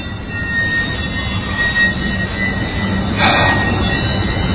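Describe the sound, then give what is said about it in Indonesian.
A train rolls past on railway tracks late at night, a steady loud rumble topped by thin, high metallic wheel squeals that hold throughout; no voices. “Aku pun berhenti sebentar dan duduk di sebuah kursi di sekitaran jalan rel kereta api itu.”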